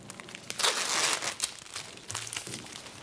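Crisp crinkling and rustling of plastic packaging in irregular bursts, with soft knocks as blood draw supplies are unpacked and laid out on a table; no one speaks.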